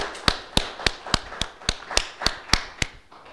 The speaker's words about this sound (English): Let's take a little pause to give yourselves a round of applause for the work. A pause, right?